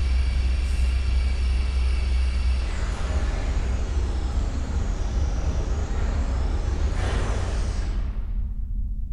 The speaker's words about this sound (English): Then, gonna go repair the engines, or the fuel lines. Repairing fuel lines. And it will start the main engine too. Here goes.